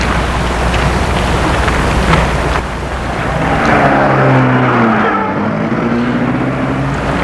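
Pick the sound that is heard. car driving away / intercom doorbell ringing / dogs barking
car driving away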